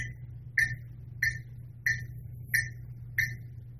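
A wood block is struck about six times in a steady, even rhythm, each hit a sharp, hollow, bright knock over a low background hum. No one speaks.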